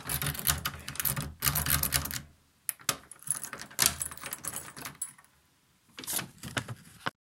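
Metal keys jangle and rattle in bursts, scraping and clicking against an oiled lock with brief pauses between, fairly loud, with no voices.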